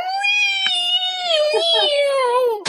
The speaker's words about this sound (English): Alright, I gotta let the cat out of the room. Who lets the cat Jesus out? Christ. I have to. It's so noisy.